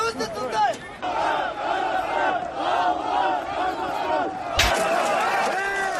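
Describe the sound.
A large crowd of protesters in Kazakhstan, protesting steep price rises, shouts and chants continuously, many voices overlapping in a dense roar, with a sharp bang or thud cutting through partway.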